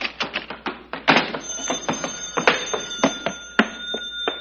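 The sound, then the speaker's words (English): An old telephone bell rings continuously for several seconds, its striker rattling rapidly against the bell to make a bright, metallic, sustained jangle with no voices. “the telephone. Maybe it's No Dice Noonan.”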